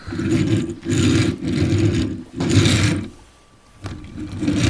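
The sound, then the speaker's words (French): A small toy car motor whirs in steady bursts, stopping briefly a few times, going quiet for a moment, then starting up again. “C'était une petite voiture.”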